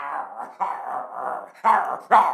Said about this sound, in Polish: Boi się pan psów? Dobrze, Ferdynandzie, na legowisko. No już, Ferdynandzie, zmykaj.